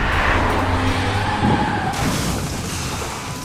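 A car loses control: steady engine roar and hissing tire skid, with a sharp jolt partway through, then a rough rumbling that slowly fades. No voices.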